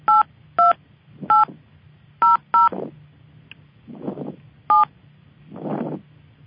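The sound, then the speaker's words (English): Six short, bright dual-pitched telephone keypad beeps tapped out at an uneven pace as a subscriber PIN is entered to join a conference call, with soft breathy hiss swells and a low hum between the presses. “Please enter your subscriber PIN followed by the pound sign.”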